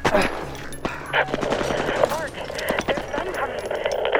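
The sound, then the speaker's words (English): Rapid bursts of gunfire crackle continuously, sharp shots overlapping in a dense, chaotic barrage, with indistinct shouting voices mixed into the din. “We heard gunshots and shouts.”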